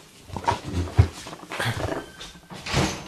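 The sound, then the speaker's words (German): A dog makes a few short, muffled noises in the background, a series of low bursts spread over a few seconds with no one speaking. “Diesmal war es nicht mein Hund, der im Hintergrund Geräusche gemacht hat.”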